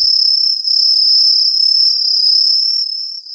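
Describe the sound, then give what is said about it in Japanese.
An Aomatsumushi tree cricket chirps in Utsunomiya in a loud, continuous high-pitched trill, steady and unbroken for the whole stretch, with a brief dip near the end and no voices. This species calls from up in trees. “もう一つおまけに、今宇都宮で一番元気に鳴いている虫、アオマツムシの声をお聞きください。”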